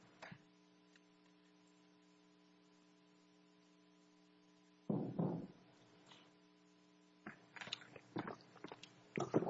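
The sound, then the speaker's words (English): A steady low electrical hum runs throughout, then sipping and swallowing noises as someone drinks a little water arrive in short bursts with small mouth clicks, and no one speaks. “May I get a little sip of water?”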